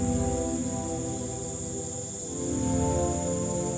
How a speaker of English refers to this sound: It's only about 8 p.m., but it might as well be midnight. The celestial darkness is so thorough. And in the darkness, the jungle really starts up. This space seems so vast by day, but now it's just a little outpost ringed by the roaring jungle.